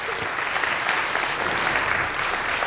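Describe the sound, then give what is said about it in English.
A sustained wash of audience applause thanking the staff, many hands clapping at once in a dense, steady patter at even loudness for a few seconds, with no voices standing out. “And so I would say that to you is I think our staff deserves just an official clap thanking them for all that they do.”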